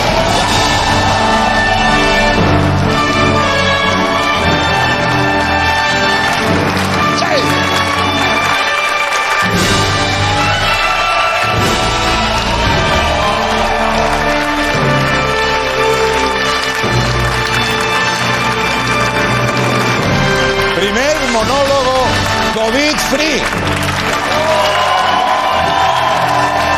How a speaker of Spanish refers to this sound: Eso creo que merece un aplauso. No digo un aplauso, ¡una ovación!